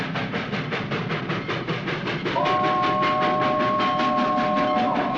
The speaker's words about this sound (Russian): Паровоз, пыхтя клубами дыма, протяжно и тяжело прогудел, постукивая на стыках рельс, тронулся на восток. Усталые пассажиры равнодушно взирали из окон вагонов на грязный, в зеленых лужах Омский вокзал.